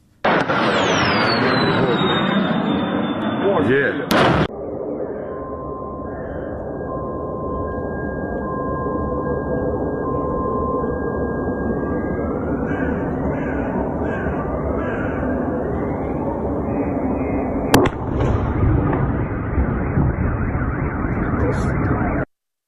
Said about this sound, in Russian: Вот момент сбития одной из ракет, которые летели сегодня утром на левый берег украинской столицы.